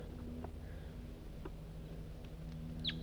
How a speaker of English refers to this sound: I'm a little higher on the hill and there's some wild birds around. 4-3's calling.